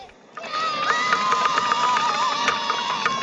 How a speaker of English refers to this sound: Some of them hit wood with sticks.